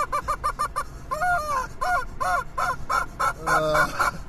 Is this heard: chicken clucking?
yes